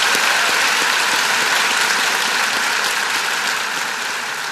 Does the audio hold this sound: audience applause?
yes